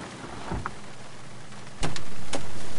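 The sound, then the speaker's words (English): A window of a police department car rolls up over a steady hum of background noise, with a few soft mechanical clicks and thumps. Nobody speaks. “Gee, so I guess you can't sit there talking to me through an open window, can you?”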